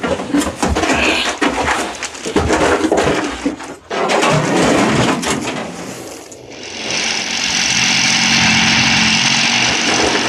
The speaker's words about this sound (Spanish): Voy a hacer desaparecer este helicóptero. No querrás que lo descubran desde el aire y nos sigan la pista, ¿eh?